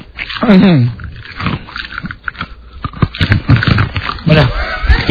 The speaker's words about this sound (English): No, I have to. Are you, he has to chew the ice. Is like chewing ice hard for you